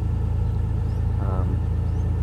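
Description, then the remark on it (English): A vehicle exhaust rumbles steadily at a raised idle, a deep, even throb that holds constant throughout, loud, with a faint brief murmur in the middle; the vehicle's original engine has about 390,000 km on it. “I'll just, now that I've got it on a high idle, give you a quick listen to the exhaust note while it's idling up.”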